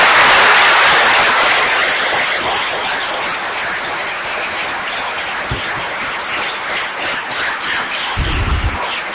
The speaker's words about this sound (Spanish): Y el último aplauso, y el más fuerte, lo quiero dedicar, que vaya para vosotros, porque sinceramente os lo merecéis y me siento orgulloso de vosotros.